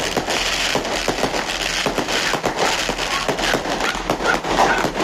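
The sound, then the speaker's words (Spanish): Fireworks crackle and pop without pause, a dense run of sharp bangs layered over a steady rumble, fairly loud and continuing for the whole stretch with no talking. “Pero ustedes lo escuchan, son fuegos artificiales, no ha parado.”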